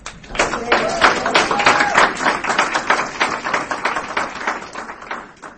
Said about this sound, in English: I would like to ask people to withhold their applause until someone has finished speaking.